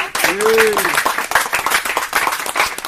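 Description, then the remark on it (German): A crowd claps steadily in dense, crackling applause lasting a few seconds, with a brief voice rising over the start of it. “Jetzt ein Applaus.”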